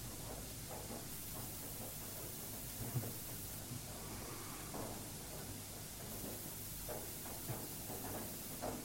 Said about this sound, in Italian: Cosa sta succedendo secondo voi? Piove, tempesta? Non ci avevo badato che era così.